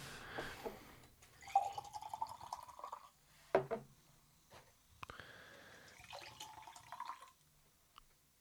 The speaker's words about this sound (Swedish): Häller upp. Mycket ljus vätska naturligtvis. Lite, ja, det ser ut som citronljus lemonad i princip.